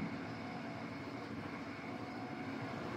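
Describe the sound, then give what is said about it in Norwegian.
A steady, loud rumble of a passing train, a continuous broad roar that holds even for the full three seconds with no voices over it. “Altså, tog.”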